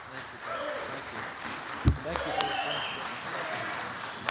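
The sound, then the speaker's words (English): A crowd applauds to welcome a speaker, with steady, dense clapping that holds at a moderate level throughout, broken by a sharp thump partway through and a few brief voices or calls mixed in. “Well, you didn't have to quit clapping so soon.”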